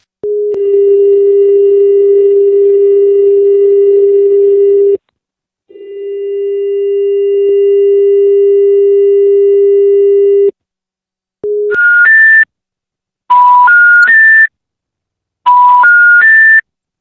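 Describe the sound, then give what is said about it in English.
Two long, steady low electronic tones over a phone line after a dialled number picks up, separated by a short gap, followed by three quick rising sequences of three pitched beeps, like a special information tone. No voices. “Some of the numbers picked up, but with strange tones playing down the line, as you can hear in these next two recordings.”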